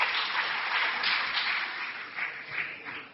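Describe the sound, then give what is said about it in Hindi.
Sustained applause from a crowd welcoming a speaker, a dense, steady wash of many hands clapping at once with slight swells, filling the whole stretch with no one speaking over it. “मैं आप सबसे आग्रह करूंगा तालियों की गड़गड़ाहट से उनका स्वागत करें।”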